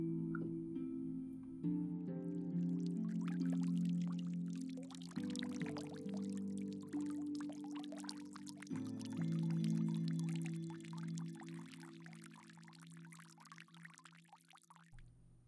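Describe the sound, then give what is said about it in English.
A babbling brook in a forest trickles and splashes steadily off in the distance, its bright watery texture layered over a low, sustained droning tone, with no voices present. “And as you sit back and relax, controlling your breath as you bring your mental focus back to you, you can push out from your body and hear that sound of the babbling brook off in the distance.”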